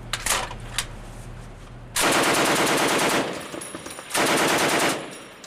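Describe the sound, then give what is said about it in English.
Two loud bursts of rapid, rattling heavy machine-gun fire toward the water from a boat deck during a Guard ocean training exercise, the first about a second and a half long, the second shorter, after a steady low engine drone. “They're pointing a heavy machine gun toward the water.”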